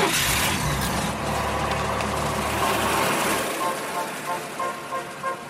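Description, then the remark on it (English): A newly released compact American car model's engine runs steadily, a loud, continuous rumble with a broad hiss on top that eases and wavers a little toward the end. “Now, all you need is the perfect car. They just released this model.”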